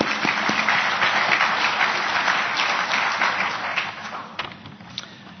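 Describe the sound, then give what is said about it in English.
A crowd claps together for the organising committee at an Actuaries Institute event, in steady, dense applause that stays loud for several seconds, then thins out and tapers off toward the end. “So big round of applause for the organising committee.”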